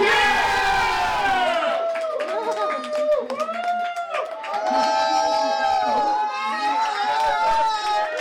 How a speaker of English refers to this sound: What is the Three Gorges River Dam? That's correct. The crowd goes wild.